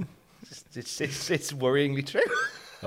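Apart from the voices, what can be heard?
sneeze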